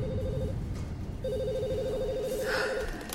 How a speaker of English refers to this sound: Phones in the office were ringing off the hook.